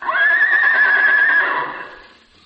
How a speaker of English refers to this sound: Well, it sounded like the neighing of a horse.